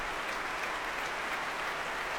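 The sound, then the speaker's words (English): Sustained applause from a large concert audience at the Royal Albert Hall greeting an orchestra making its debut there, conducted by Marin Alsop. A dense, even wash of many hands clapping at steady loudness with no voices standing out, continuing throughout. “And just listen to that reception here at the Royal Albert Hall.”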